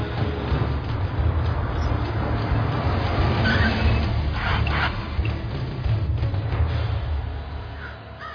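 A car engine rumbles steadily throughout, holding at a fairly even loudness, while a few harsh crow-like caws break through near the middle. No one speaks.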